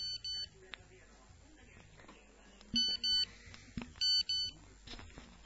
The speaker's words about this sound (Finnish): Ja Radioluoman syyksextra puhelin jo näyttää elon merkkejä. Tämä tarkoittaa ne sitä, että uusi radiokilpailu on alkamassa.